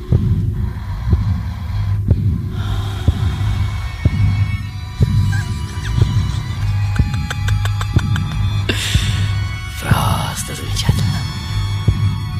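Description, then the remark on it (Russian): A steady heartbeat thumps about once per second, deep, over a constant low throbbing hum, with muffled whooshing and faint electronic warbles drifting in partway through. “Как известно, все мы родом из этой плодородной среды, насквозь пронизанной пульсирующим биением неугомонного ударника Матери Вселенной.”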